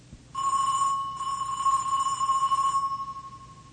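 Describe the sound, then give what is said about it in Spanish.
An electric doorbell at the porter's lodge of a building at number 1674 Avenida Sangüenza rings in one sustained, steady buzzing tone lasting about two and a half seconds, then fades, with no talking. “Juan Carlos se encamina hacia la avenida Sangüenza, número 1674, y timbra en la portería.”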